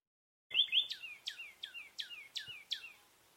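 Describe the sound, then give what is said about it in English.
Calls of two common nighthawks and one northern cardinal, a reconstruction of a 2017 bird count at a spot in Florida: a quick run of about eight sharp, downslurred whistled notes at a steady pace, clear, with no talking. “Instead of 30 birds counted from 9 species, only 2 species of birds were counted that day, 2 common nighthawks and 1 northern cardinal.”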